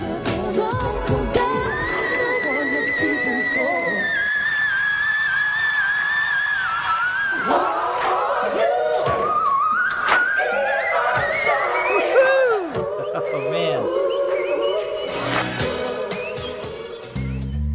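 A female singer hits extremely high whistle-register notes in a rapid series of sustained, sliding and squealing tones over loud musical backing, with several short excerpts cut together.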